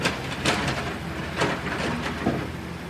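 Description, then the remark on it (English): Workmen loading rubbish onto a truck: a steady engine rumble with a few sharp clanks and bangs, about one every second, rising over the noise. No one speaks. “Ahead of us there's a truck and there's some workmen loading rubbish onto the back of the truck, making noise.”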